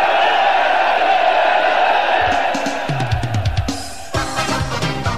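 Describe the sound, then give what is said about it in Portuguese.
A big crowd in a football stadium roars, cheers and applauds loudly in a dense, continuous wash of noise, which thins after a couple of seconds as other rhythmic sounds take over. “Pela primeira vez da vida, Cerca Frango recebeu aplausos da galera num estádio de futebol.”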